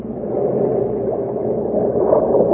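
A speedboat engine roars across a lake in a steady, low, rumbling drone, holding at an even loudness throughout with no voices over it.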